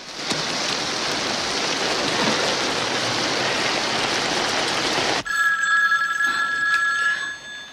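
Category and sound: household object, telephone ringing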